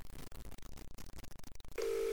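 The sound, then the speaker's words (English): A quick run of about a dozen clipped touch-tone beeps as a phone number is dialed during a radio show, followed by a steady, even call tone that holds to the end. Clear, with no voices. “But the person you have dialed can't...”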